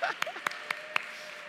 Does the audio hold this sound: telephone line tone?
no